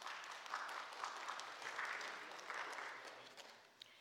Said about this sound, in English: We appreciate that. You can clap, that's good.